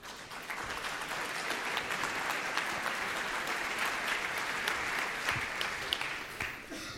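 Sustained audience applause welcoming a paleo artist to give a talk. It is a dense wash of many hands clapping at a steady, fairly loud level for several seconds with no voices standing out.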